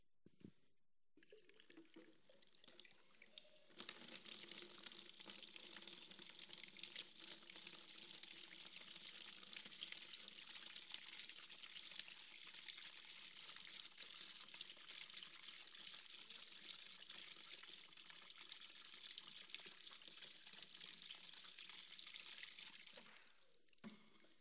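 Water pours steadily into a container holding 10 liters for about twenty seconds, a continuous splashing rush that starts abruptly and stops at the end, with no one speaking.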